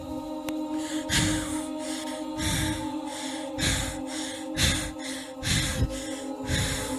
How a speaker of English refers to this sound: We can hear our mother breathing fine. Were you able to breathe like this before?